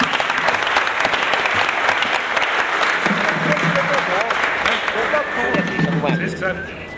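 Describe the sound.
Steady, dense applause from an audience for a composer fills the whole stretch, loud, with voices calling out and chattering over the clapping in the second half before it starts to taper.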